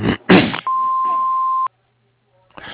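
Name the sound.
answering machine beep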